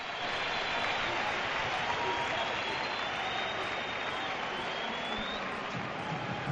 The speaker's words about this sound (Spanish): A punto de terminar, acaba en este momento y esa es la pitada a la directiva.